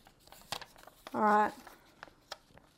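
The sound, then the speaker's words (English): Small pieces of paper being shuffled, a few soft, scattered crinkles and rustles, with a brief hummed vocal sound partway through. “I got my little pieces of paper.”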